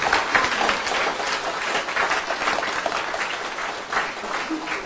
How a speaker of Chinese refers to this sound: 所以大家的莅临，为我们这次的活动增添了很多的光彩，所以掌声献给大家们，谢谢。